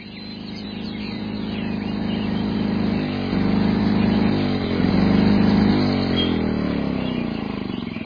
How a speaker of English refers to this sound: Everyone, pardon my noisy lawnmower.